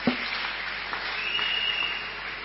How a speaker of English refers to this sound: Praise the Lord. Praise the Lord. Let's clap our hands for God now.